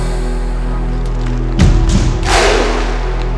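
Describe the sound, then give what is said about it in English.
One deep, booming drum hit sounds over a steady low hum, followed shortly by a brighter, noisier burst that fades over about half a second. No one speaks. “When you hear the drum, you clap.”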